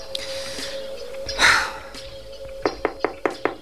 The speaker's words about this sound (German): Bevor Bob am nächsten Morgen im Polizeipräsidium an die Tür von Inspektor Cotter klopfte, atmete er noch einmal tief durch.